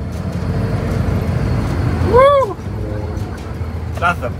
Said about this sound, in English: Oversized dump truck and no problem. Just a big car.